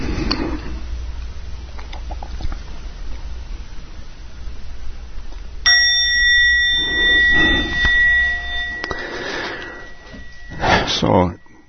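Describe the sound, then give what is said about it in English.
A meditation bell is struck during a meditation session and rings out with a clear, sustained tone, then is struck a second time, its long shimmering resonance lingering over quiet room noise. “And in a minute or so, Peter will ring the bell and we'll come back to the room.”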